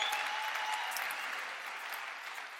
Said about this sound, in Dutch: Ik ben echt enorm onder de indruk van de effort die ons hele team erin heeft gestoken. Dus een applaus alvast voor alle vrijwilligers. We willen jullie bedanken.